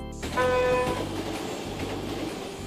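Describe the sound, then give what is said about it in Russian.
A train rolls along with a steady low rumble and clatter, a brief tonal horn-like blast sounding near the start before the continuous rail noise carries on. No one speaks. “Извини, я сейчас в поезде.”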